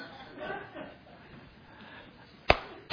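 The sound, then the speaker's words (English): A single sharp, loud slap, a demonstration of a Gerber slap, cracks out near the end, following a few seconds of low crowd murmuring and soft chuckles. “Some of y'all asking, what's a Gerber slap? Y'all want to demonstrate that one more time?”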